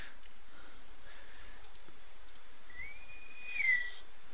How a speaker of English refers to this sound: I hope you heard the Navy whistle. I think it just came out again. Let's see if it hears. There it goes.